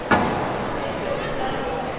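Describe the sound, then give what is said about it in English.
A single sharp squash ball whack rings out near the start, followed by a brief grunt and a faint shoe squeak over a steady background hum. “So there you have it, the three audio components of squash. Whack, grunt, squeak.”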